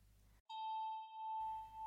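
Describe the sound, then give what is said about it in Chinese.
A single bell chime struck once, ringing out clear with a long, steady tone that gently wavers as it sustains, following a brief silence after faint background hum. The bell is rung to call the listener into a trance. “这是我的钟声，我用它来召唤你进入恍惚的状态。”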